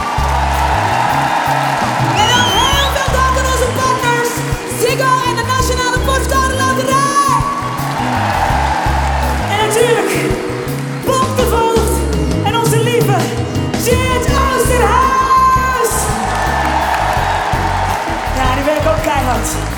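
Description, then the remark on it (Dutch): A concert crowd applauds and cheers with scattered whoops for the band, the crew and everyone behind the scenes, the clapping and shouting layered over the band still playing a steady, thumping bass line, the whole thing loud and continuous for about twenty seconds. “Ik wil een keihard applaus voor onze band en de crew en iedereen achter de schermen.”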